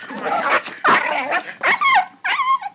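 A dog snarls and growls in rough, noisy bursts as it attacks a man who strikes it with his fists, then breaks into a few sharp, high yelps that rise and fall. It's loud, with no talking.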